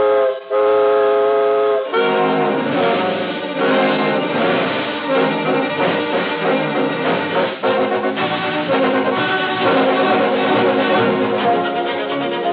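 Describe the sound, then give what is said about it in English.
A loud steam train whistle sounds for about two seconds, then gives way to a dense, continuous rumble and clatter of the train pulling away once the steam pressure is up, with no talking. “The steam pressure is up, and we're off on the second leg of our swift journey across America”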